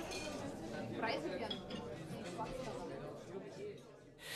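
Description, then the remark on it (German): Glasses clink together in a toast, a few bright, short chimes rising over a busy murmur of voices. “Prost.”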